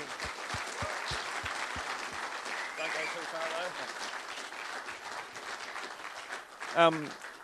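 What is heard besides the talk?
audience applause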